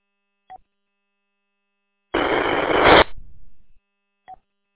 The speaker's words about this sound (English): Last station, you had a lot of static. Come back.